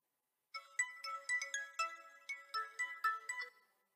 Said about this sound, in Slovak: Zvuk budíka. Kto z nás by tento alebo podobný zvuk dôverne nepoznal?